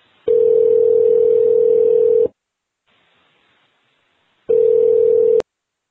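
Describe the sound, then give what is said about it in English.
A steady, loud telephone dial tone hums for about two seconds, pauses briefly, then sounds again for about a second before cutting off abruptly, as a phone call is placed for a Square Dance Radio Network interview. No one speaks. “Let's get Gary on the phone.”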